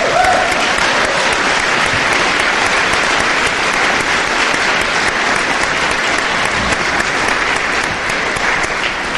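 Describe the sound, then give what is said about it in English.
A crowd applauds steadily for about nine seconds for a man's 41st birthday, a loud, dense patter of many clapping hands that holds an even level throughout, with no voices standing out. “His birthday today, and so we'd give him an applause.”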